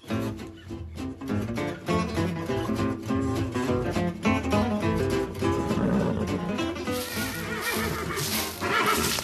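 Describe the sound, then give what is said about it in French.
A horse neighs loudly, its shrill whinnies rising and falling in repeated bursts that fill the whole stretch without any talking; recorded in the Vosges mountains, France. “Et on va rejoindre un homme qui a la passion du cheval.”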